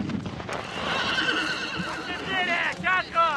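A prancing horse ridden by a reenactor dressed as one of Napoleon's generals at a battle reenactment whinnies loudly, its shrill neigh rising and then trailing off in wavering calls, with hooves clopping and stamping beneath it.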